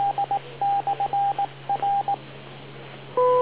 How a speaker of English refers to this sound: Wait for the beep.